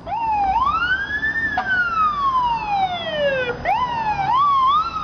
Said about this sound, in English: Do the fire engines really need to be that loud to be safe?